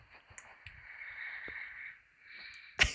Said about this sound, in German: Und dann gibt's auch danach noch ein Video, weil du sehr, sehr laut schnarchst. Hört man das?